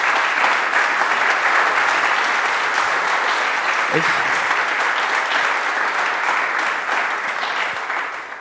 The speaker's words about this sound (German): Ich finde, die sollten mal einfach jetzt so richtig mal einen ganz kräftigen Applaus mal kriegen hier an dieser Stelle.